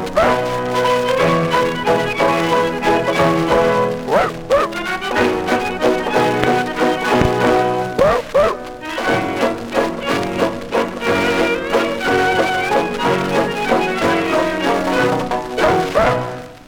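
A quartet of accordions plays a lively waltz in steady three-beat time, with full sustained chords and a bouncy rhythm, loud, no singing.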